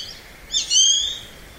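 A single high, whistled grey-faced buzzard call, a clear rising-then-falling cry lasting under a second, heard alone against quiet outdoor background.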